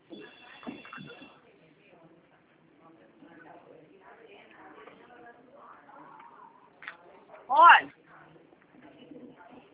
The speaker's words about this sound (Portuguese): Telefone.